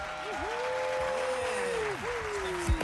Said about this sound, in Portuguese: Palmas.